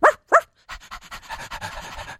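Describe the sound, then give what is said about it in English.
Two quick, sharp yips from Pixie the dog, then a run of rapid, rhythmic sniffing and panting as she smells the carpet on the floor, keeping going steadily to the end, with no one talking. “Special guest Pixie is on the floor smelling the carpet.”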